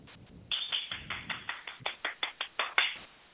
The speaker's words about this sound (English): Y'all only heard one hand clap because it's only me in here. Okay, so yay!